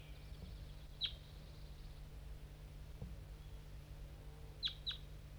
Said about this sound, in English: It's 7:45 and 5-3 is responding. There's a wild crossbill around somewhere. Maybe not the same one I just heard before. This one's coming from the bottom of the hollow.